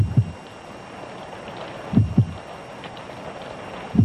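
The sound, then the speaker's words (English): A basement water pump runs with a steady low rumbling hum, punctuated by deep, heavy double thumps roughly every two seconds, with no voices. “Well, there goes the water pump.”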